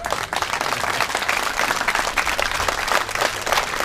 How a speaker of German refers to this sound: Wessen Applaus war das jetzt? Zählen wir zu dir. Ja, ne? Ist ein Unentschieden. Ist dein.